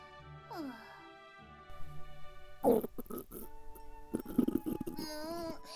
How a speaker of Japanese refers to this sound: 腹の虫も騒いでおるわ。雨水しか口にしておらぬしの。